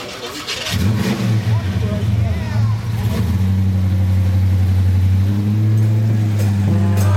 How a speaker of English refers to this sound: If you would like to motivate and inspire this group of people with the revving of your truck.